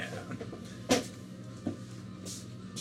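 A door in a hair salon swings shut with a dull thud, then a softer latch-like click follows moments later, set against a quiet hum with no talking.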